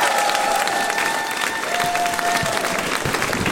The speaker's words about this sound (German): Aber eigentlich gilt ja der Applaus euch, weil ihr habt ja Eintritt bezahlt.